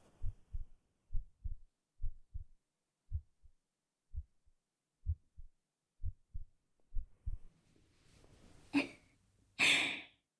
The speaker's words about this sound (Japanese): 聞こえない？今の私があんたと同じくらいすっごくドキドキしてるってこと。